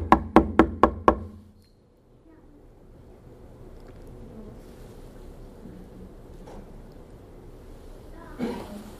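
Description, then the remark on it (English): Five quick, evenly spaced knocks on a door ring out loud, then give way to a low, steady background hum with a faint thump near the end. “I'm to knock on their door.”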